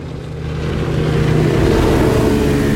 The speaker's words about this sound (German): Diese Rennboote. Als wir vor 5 Jahren das Haus kauften, gab's die noch nicht.